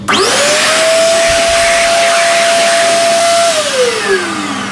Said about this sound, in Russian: Руки выше. Вот и сушилка.